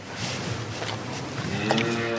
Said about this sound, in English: The sound of a camembert cow licking a microphone. These cows, when they're not tasting recording equipment, eat a lot of green Normandy grass and produce a lot of creamy milk that goes to make cheese that's admired the world over.